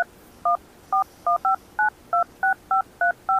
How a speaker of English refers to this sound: Okay, it's dialed.